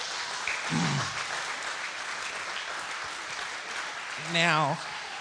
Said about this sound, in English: Very humble, let's give sir. The Lord a hand clap of praise.